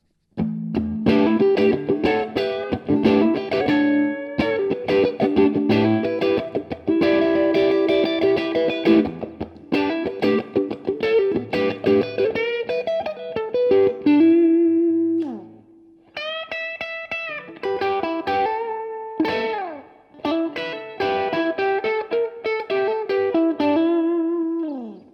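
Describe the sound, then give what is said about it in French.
An electric guitar played through an overdrive pedal set with the drive at two-thirds and the tone in the middle, with gritty, moderately driven tone on strummed chords and short riffs, pausing briefly before more chord phrases ring out. No one speaks. “Alors, on est sur le drive toujours, mais avec le drive aux 2/3, la tonalité au milieu, tu ouais.”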